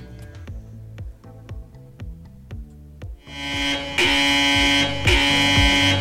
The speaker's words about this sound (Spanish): Es que esta alarma a mí me gusta porque siento que también lo estamos informando